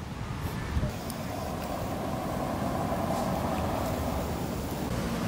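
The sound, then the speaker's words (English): A GT86 car drives by, its engine and road noise forming a steady, loud low rumble with a broad hiss that holds fairly even for several seconds, with no clear rise or fade. “Ah, no, that's a GT86. That's an awesome car.”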